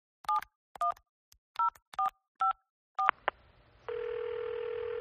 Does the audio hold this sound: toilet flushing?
no